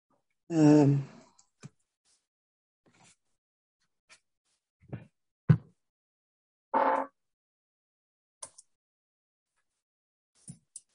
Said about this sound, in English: Okay, I'm typing an email someplace else, so hang on.